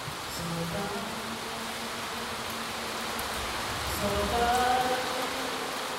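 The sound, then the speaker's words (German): Heavy rain drums steadily on a tin roof during the rainy season, a dense, continuous hiss and patter that swells slightly louder toward the end, with faint low hums beneath. “Mitten in der Regenzeit. Da muss schon mal eine Aufführung unterbrochen werden, wenn es plötzlich unübertönbar auf das Blechdach herunterprasselt.”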